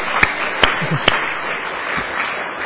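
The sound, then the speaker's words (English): A few scattered claps from an audience, three sharp ones in the first second and another softer one later, over a steady hiss of background noise rather than full applause. “Okay, if you want to clap as well.”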